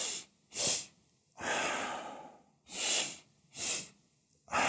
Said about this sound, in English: Now, to do it, all you need to do is inhale twice through the nose, one long inhale followed by a quick, shorter one, and then exhale deeply through the mouth. So you do this like this.